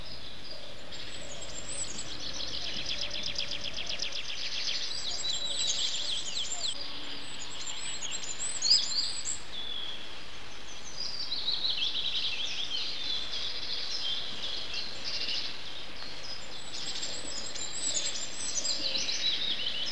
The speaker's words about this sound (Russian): Прислушайтесь, какой нежный и тонкий свист. На вершине старой ели поет самая маленькая из наших птиц – королек.